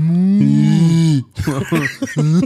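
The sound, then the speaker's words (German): A person imitates a cow with a long, low drawn-out moo lasting over a second, then follows with a few short, choppy vocal bursts, loud. “da laufen die wieder einen Meter weiter, da machen die ihre Geräusche, so was wie so.”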